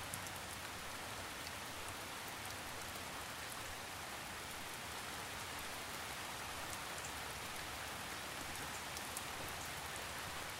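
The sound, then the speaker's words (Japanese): Steady cold rain falls continuously outside, a dense, even hiss of drops striking surfaces with scattered brighter patters, holding at a constant moderate level throughout with no voices or other sounds. “その一方で、部屋の中は暖かく、外の冷たい雨とは対照的に心地よいぬくもりが感じられます。”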